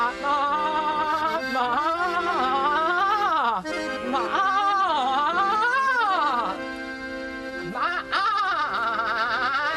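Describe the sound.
A voice imitates a goat's bleat for the puppet character Old Goat reciting a poem at a festival, in long, wavering, quavering cries that rise and fall almost continuously for several seconds, loud, with only brief breaths between phrases.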